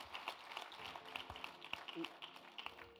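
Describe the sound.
An audience applauding, many hands clapping in a dense, steady patter that holds for a few seconds, fairly quiet, with some voices faintly mixed in.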